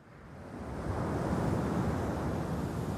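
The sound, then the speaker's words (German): Steady sea surf rushes against the shore of the Western Sahara desert coast, a broad continuous wash of breaking waves swelling slightly louder after the first second, with a faint breath of wind and no voices. “Und da, den Hang hinunter, erstreckt sich das große, blaue Meer.”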